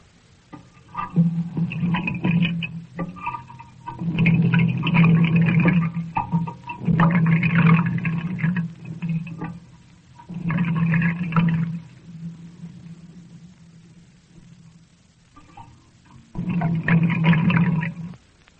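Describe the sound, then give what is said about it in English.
Water run through a piece of ordinary pipe gurgles and sloshes in a series of irregular surges, picked up with a sound microscope, each burst swelling loudly then fading, with short quiet gaps between and a longer pause before a final rush. “The way we made that one was to run some water through a piece of ordinary pipe and let the sound microscope listen to it.”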